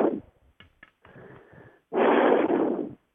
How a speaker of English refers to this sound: I believe it's you is breathing in the microphone. Okay. No breathing.